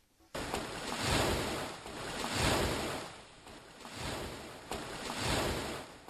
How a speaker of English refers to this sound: Strong waves awash the sandy shores of Lake Victoria as a man appears from afar running.